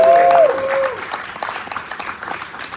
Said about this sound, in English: Let's give Until Freedom a round of applause.